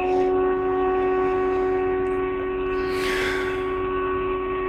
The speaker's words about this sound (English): But now there's car sounds. What are those? Are those storm sirens? I think so.